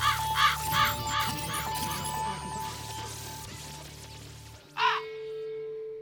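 In a radio station jingle, a raven caws three times in quick succession over a low, steady musical drone, then after a pause gives one more loud, harsh caw as the music fades.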